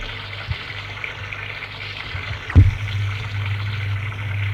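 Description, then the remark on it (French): Steady running water hisses continuously from a shower in a second-floor bathroom, with a low hum underneath and a brief thump partway through. No one speaks. “Je prenais ma douche comme d'habitude.”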